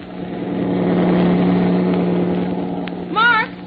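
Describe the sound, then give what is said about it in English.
A heavy truck speeding along a road at night without slowing down rumbles loudly with a deep steady drone, swelling up and easing off as it rolls past, and a brief shout rings out near the end. “Maybe it's a farmer's pickup truck. No, it's too heavy.”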